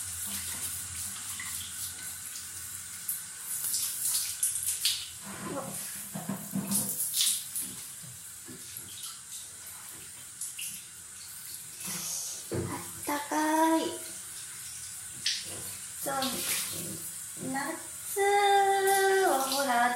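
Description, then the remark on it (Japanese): A shower sprays steadily in a bathroom with a continuous hissing rush of water, while short bursts of voice, including a higher child-like voice near the end, rise over the spray. “いつもはですね、よ、シャワーをこうやって浴びるんだな聞こえるかな、これシャーって。”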